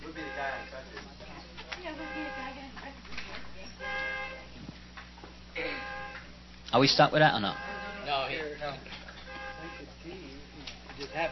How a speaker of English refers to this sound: Is it because he honked that horn before?